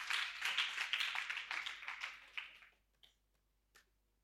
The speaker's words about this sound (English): Let's clap hands for Jesus Christ. Hallelujah.